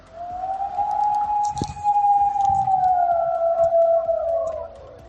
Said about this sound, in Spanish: Es el aullido del lobo que tiene atemorizados a los vecinos de Navelgas, pueblo con 560 habitantes, que no es que tengan el lobo cerca, que ya asusta de por sí, es que además está matando al ganado muy cerca del colegio y del centro de salud.